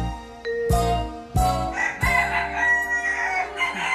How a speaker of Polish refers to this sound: To są kochiny, kochiny akurat miniaturowe. To jest kogut biały, lokowany. Bardzo ładne.